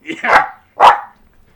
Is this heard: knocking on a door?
no